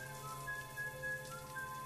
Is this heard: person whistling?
yes